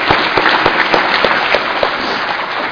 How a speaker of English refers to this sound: Let's give them and everyone else a round of applause. The volunteers, the committee.